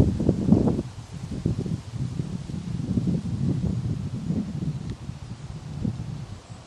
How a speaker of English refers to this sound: Maybe you can hear the wind again. I'm carrying on walking. You can probably hear the wind around this little machine.